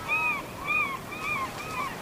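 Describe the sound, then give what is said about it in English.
Gulls calling loudly on an island in a steady series, four harsh, nasal cries spaced evenly about half a second apart, ringing out with no talking. “One of the recordings has gulls in the background, and so you're hearing these really obnoxious gulls. They're really loud.”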